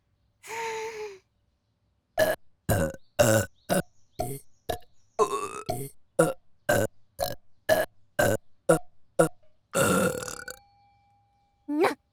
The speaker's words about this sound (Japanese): 木魚ゲップ行くのじゃ。